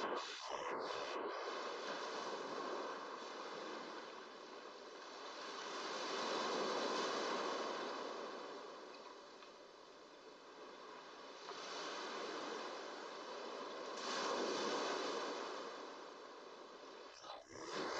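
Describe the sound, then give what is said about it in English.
Steady ocean surf washes in and out on a warm sandy shore, a broad hiss that swells gently and recedes in slow waves, with no voices over it. “The waves caress your stomach and chest.”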